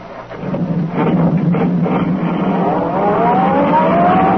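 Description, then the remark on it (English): A sedan accelerates along a concrete road, chasing another car, its engine a loud, continuous roar that climbs steadily in pitch during the second half. No voices. “Turning onto the road, the tree pressed down on the accelerator. The sedan sped along the concrete after Brinkley's car.”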